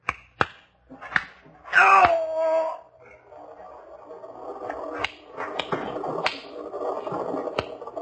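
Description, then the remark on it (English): Several sharp, snapping gunshots crack out at irregular intervals, one shot knocking a gun out of a man's hand, one followed by a brief whining, ringing burst, over a low murmur of muffled voices and commotion. “Nice shooting, Ryder. Knocked back his gun right out of his hand.”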